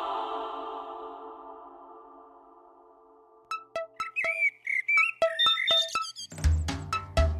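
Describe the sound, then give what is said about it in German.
An alarm clock goes off with a string of bright, chirpy electronic beeps and warbles after a fading sustained tone, ending in a faster burst of rapid pulsing tones. No one speaks. “Doch, mein Wecker. Es geht wieder los.”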